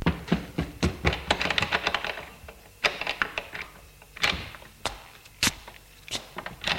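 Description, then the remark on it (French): A front door being opened by someone feeling his way in the dark: a flurry of sharp clicks and knocks from the latch and handle, irregular and fairly loud, followed by a few separate thunks and quieter pauses, with no voices. “Ouvre la porte d'entrée.”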